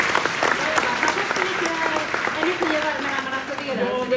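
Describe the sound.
An audience claps steadily for about four seconds after doing squats, a dense, even wash of applause with some voices faintly audible underneath.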